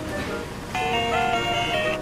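A Game Boy startup tone: a bright, buzzy electronic melody of a few sustained notes that step in pitch for just over a second, heard over a faint steady background hiss.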